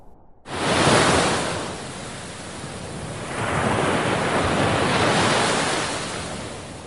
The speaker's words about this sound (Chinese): 风暴呼啸，黑暗中闪电交加，我的心也随着翻腾的浪涛起伏。